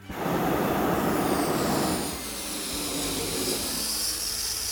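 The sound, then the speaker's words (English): A hot air balloon burner fires with a loud, broad roar for about two seconds as the balloon lifts off from the desert during a balloon race, then eases into a steady, airy hiss that carries on to the end, with no voices. “The fuel is working. We're lifting back off into the air.”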